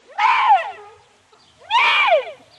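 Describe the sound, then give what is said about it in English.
A musical pipe sounds a deer-like call twice, each a loud, rising-then-falling bleat lasting about half a second, separated by a short pause, with no talking. “Well, they say he went deep among the maple trees before he took out his pipe and made the noise of a deer.”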